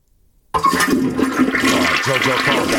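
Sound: toilet flushing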